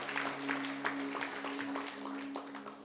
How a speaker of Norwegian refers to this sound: Skal vi gi en applaus til disse flotte sangerne og musikerne?